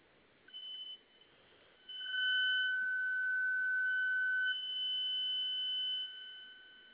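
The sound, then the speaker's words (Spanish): A store security alarm, set off at the store's opening because it was not disarmed within a minute, blares with a steady, piercing electronic tone that holds for several seconds, briefly pulsing at the start and dropping slightly in level near the end. “Lo que pasa es que ahorita la apertura de mi tienda me tardé más de un minuto en alarmar y sonó la alarma.”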